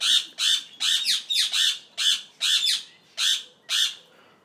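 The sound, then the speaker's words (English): Birds squawk in a bird enclosure: about nine loud, harsh, raspy calls in quick succession, some doubled, with short gaps between them and no one talking. “I'm walking past a bird enclosure, in case you wondered, which also has a rabbit. So, you might be able to hear birds.”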